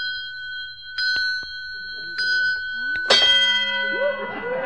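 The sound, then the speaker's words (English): A small bell on an automatic egg-counting device, which rings each time an egg is laid, rings several times at irregular intervals, each strike leaving a clear, lingering tone. The last ring is louder and busier. Brief vocal sounds come in between the rings. “Say, what on earth is that little bell that keeps ringing? Oh, that's an automatic counting device. It rings a bell every time an egg is laid.”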